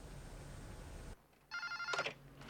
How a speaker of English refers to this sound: The phone in Bud's dark apartment. A hand sleepily reaches for it.